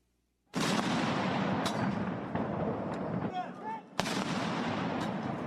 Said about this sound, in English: Members of Japan's self-defense forces fired cannons in a 19-gun salute as Abe's widow, Aki Abe, carried the late leader's ashes to a funeral ceremony.